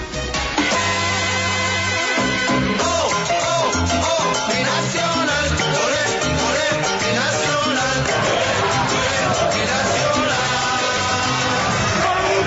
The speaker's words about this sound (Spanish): Y es que así fue despedido hasta hace un par de horas Atlético Nacional a su salida del estadio Atanasio Girardot, en medio de la ovación de los hinchas verdolagas, que no paramos de celebrar el paso a la semifinal de la Copa Libertadores.